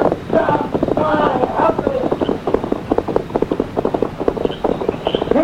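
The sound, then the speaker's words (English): The hooves of the horse Silver clatter in a quick, steady gallop rhythm as it rides away, the hoofbeats dense and fairly loud, with a voice briefly audible at the start and a breathy wind-like hiss underneath. “Get on that horse.”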